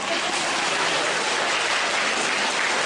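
Steady, dense applause from a crowd, many hands clapping at once in a continuous wash of sound that holds at a constant loud level throughout, with no speech over it.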